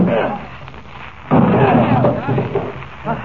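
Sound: door being broken down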